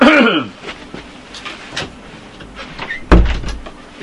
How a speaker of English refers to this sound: I'm just going to close it. Close the door.